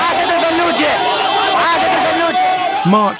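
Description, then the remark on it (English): A jubilant crowd in Fallujah on March 31st, 2004, dragging the bodies of four American security men through the dusty streets, fills the air with loud, overlapping shouts and excited chatter, many voices rising and falling together in a dense, continuous din. “A jubilant crowd drags the bodies of four American security men through the dusty streets.”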